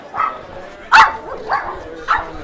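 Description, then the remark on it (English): A dog barks several times in short, irregular bursts, with one sharper, louder bark standing out among the others against a low, busy background, at a Saturday pet blessing held by the Humane Society of Vero Beach and Indian River County, attended by about 150 pets, mostly dogs and cats. “About 150 pets, mostly dogs and cats, got a head start on the week on Saturday when the Humane Society of Vero Beach and Indian River County offered a chance for a special blessing.”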